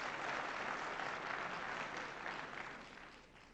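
Sustained audience applause, a dense wash of many hands clapping at steady loudness that begins to taper off near the end, with no voices standing out.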